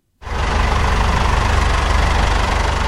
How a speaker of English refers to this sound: Another tractor rolls up to the weighing bay loaded with olives. I am at a processing factory in a village called Arajal, just outside the city of Seville, in the south of Spain.